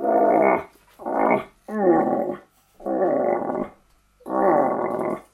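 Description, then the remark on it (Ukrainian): A deer call blown on a hunting lure, used to call deer, sounds five loud, growly blasts, each about half a second long, separated by short pauses, with no talking. “Оленя подзывают.”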